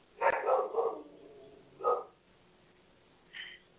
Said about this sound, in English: Will you ask them what they're barking at? Yeah, I will. Hold on. There's like some guy outside. I think maybe he has a hose or something.